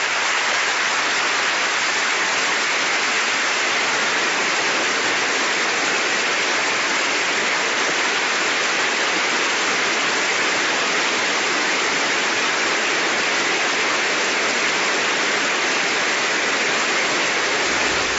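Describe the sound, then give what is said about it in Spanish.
A large audience in Colombia applauds steadily as victims of the Colombian armed conflict stand to receive a tribute, among them Ingrid Betancourt and Clara Rojas; a dense, even roar of clapping that holds its loudness without breaks and with no voices over it. “Ese grupo de víctimas que recibe el aplauso está Ingrid Betancourt, Clara Rojas, que estuvieron secuestradas por la guerrilla de las FARC, y también familiares de los diputados del Valle asesinados.”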